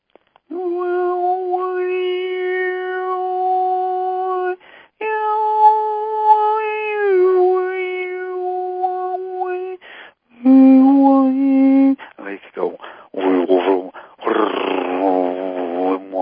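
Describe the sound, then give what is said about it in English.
A human voice imitates the meowing of a pet cat named Joy, with long, drawn-out, steady tones, several in a row, ending in shorter wavering, warbling cries. Fairly loud, with no other sounds. “I'll do the frequency of my kitty cat.”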